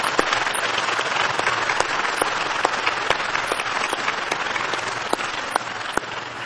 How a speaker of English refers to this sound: Also, what I'd like you to do is give a round of applause for Brian Sand and the quintet that has been doing here.